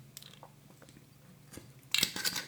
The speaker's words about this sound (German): Letzten Tropfen rausgesaugt.